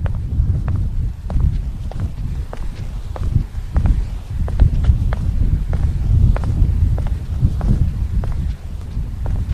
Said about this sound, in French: Ici, on se retrouve dans le vent sur le bord de la baie de Sept-Îles, qui est une baie vraiment magnifique.